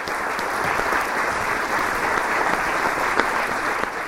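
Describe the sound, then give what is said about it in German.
A theatre audience at an outdoor performance of Romeo und Julia in the Sihlwald applauds long and enthusiastically at the end, a dense, even wash of many hands clapping at constant volume for the whole stretch, with a few sharper individual claps standing out and no voices. “Das Publikum ist hoch konzentriert, schlägt ab und zu eine Mucke tot, auf denen hat es viel und klatscht am Schluss lang und begeistert.”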